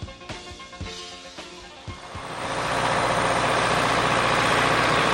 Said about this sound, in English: It begins in the soybean plots where an agronomist was using a four-row cultivator pulled by a small John Deere tractor.